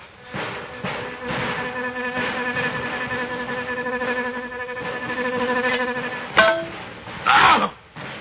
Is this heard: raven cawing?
no